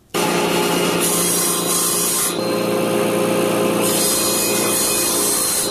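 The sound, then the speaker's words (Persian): A 29-year-old carpenter in Herat, Afghanistan, cuts a wooden board with an electric saw to make a dining table; the motor whines loudly, with two longer bursts of harsh, bright rasping as the blade bites through the board. No one speaks. “29 ساله تخته چوبی را با اره برقی میبرد تا برای یک از مشتریانش در هرات میز غذاخوری بسازد.”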